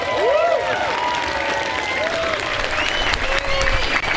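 An audience applauds steadily for about four seconds, a dense wash of clapping at even loudness, with scattered whoops and rising and falling whistles and cheers mixed in.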